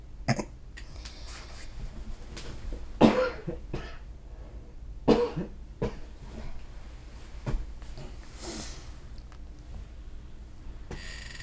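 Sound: coughing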